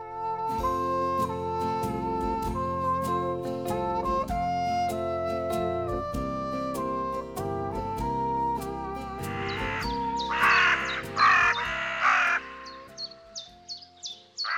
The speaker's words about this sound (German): Raben und ihre Rufe und Stimmen. Die gehören ja zu den Singvögeln, obwohl man das nicht glauben will, weil die Stimmen jetzt nicht besonders schön sind gerade.